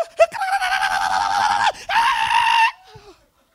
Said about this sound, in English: After all the shouting.